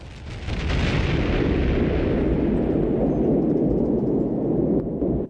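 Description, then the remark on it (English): A huge explosion of a submarine, set off by a short circuit, shatters its hull. It bursts in after a brief moment of quiet, then rolls on as a loud, sustained, deep rumbling roar whose hiss slowly fades over several seconds. No one speaks. “Something short-circuits on the submarine and a huge explosion shatters its hull.”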